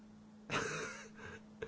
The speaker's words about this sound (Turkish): Abi kedi sesi geliyor. Ne oldu?